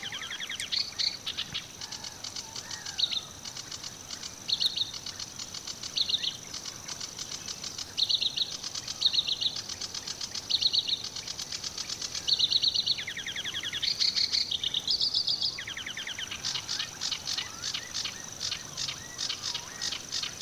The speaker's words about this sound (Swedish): Men i förgrunden är det sävsången och den låter nästan som att den är hopsatt av olika fåglar som sitter där. Ja, men så är det lite grann också att den kan ju lägga in härmningar på olika fåglar i sin sång.